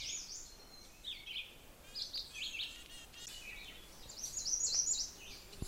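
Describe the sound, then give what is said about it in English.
Veeries, a redstart and a black-throated green warbler sing in a yard in the morning, a chorus of high, overlapping phrases and trills repeating every second or so, soft over quiet outdoor air; the redstart and warbler are fairly distant, softer than the veeries. No voices. “All these other birds keep singing around me, but I'm also hearing a redstart and a black-throated green warbler, but neither of which is really close enough to sort of be louder than the veeries.”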